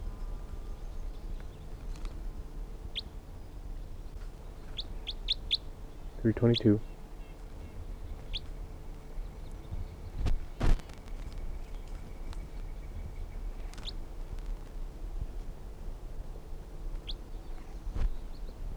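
A flock of birds, part of which is caught in a net, calls from the trees in short, high, scattered chirps at irregular intervals, with one louder, harsher descending call partway through, over a steady low background hum.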